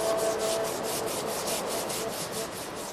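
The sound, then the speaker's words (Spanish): A stone on a riverbank is scrubbed clean: steady rhythmic rubbing and scraping against its hard surface, repeated strokes about four per second forming a continuous gritty hiss with no voices. “El mayor, con ayuda de los kiwetecnos, empieza a limpiarla mientras susurra palabras y mastica hoja de coca.”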